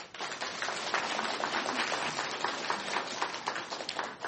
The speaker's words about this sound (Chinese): 我也盼望我们的教会是不是可以鼓掌感谢他们。